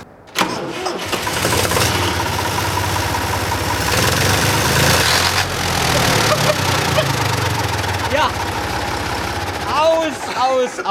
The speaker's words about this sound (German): Wenn das nicht reicht. Gummihuhn mit Verkleidung. Dann weiß ich auch nicht.